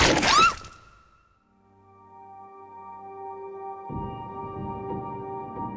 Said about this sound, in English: What does this sound like? The main components of this sound, one was a ball bearing ricochet off of a hard wall, a loud pop, and an apple bite. Also, ripping paper. The end result sounded like this.